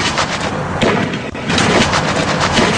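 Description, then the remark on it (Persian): Loud, chaotic gunfire crackles in rapid, overlapping bursts over a dense wall of noise, with a brief dip midway before the shooting resumes just as heavily; Bahraini and Saudi forces shooting during a crackdown on people in Bahrain. “نظامیان بحرینی و سعودی هم کار همیشگیشان را در مقابل مردم بحرین انجام دادند. سرکوب، شلیک گلوله، ترس و ارعاب.”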